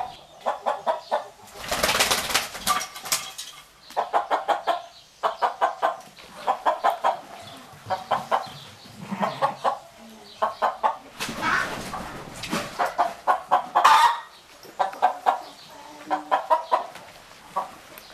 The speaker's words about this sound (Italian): Il pollo.